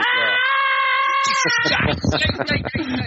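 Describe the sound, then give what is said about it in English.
A loud, sustained scream holds for about a second and a half, piercing, then breaks into rapid, agitated speech from the same or another voice. “Some of us have headphones on. Who is screaming and on fire and hurting and is pinned under a flaming dwarf?”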